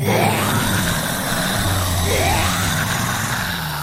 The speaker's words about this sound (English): Throw ball. Zombie scream.